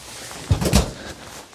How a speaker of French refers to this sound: Fait que ça sera pas bien long, j'ouvre la porte, là.